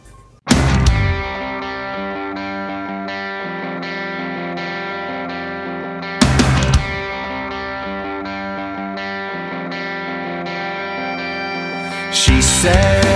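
A loud, distorted electric guitar riff drives a pop-punk rock song, with heavy crashes hitting at regular section changes. The music plays without any singing or talking.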